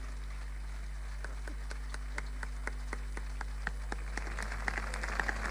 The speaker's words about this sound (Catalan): Un aplaudiment ben fort, sisplau.